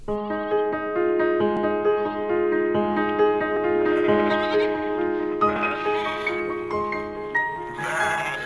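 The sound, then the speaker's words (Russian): A sheep bleats repeatedly and loudly, its wavering, nasal cries running almost continuously with short breaths between calls. “Или ты как та заблудшая овечка из притчи? Вот послушай ее.”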